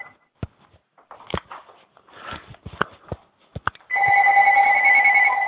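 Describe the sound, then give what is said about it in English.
A few scattered clicks and tapping noises, then a cell phone starts ringing: a loud, steady electronic tone that keeps going to the end. “Hey, is somebody's cell phone ringing? I'm hearing bells.”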